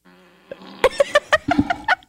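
A wet, sputtering fart sound effect played from an Amazon Alexa smart speaker in answer to an "Alexa, fart" request: a quick run of buzzy, flapping bursts over about a second, fairly loud, with no one talking.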